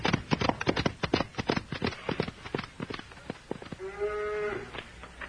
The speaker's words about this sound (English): Yeah, these cows look mighty thirsty, Bull.